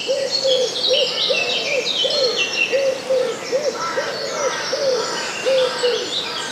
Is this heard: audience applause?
no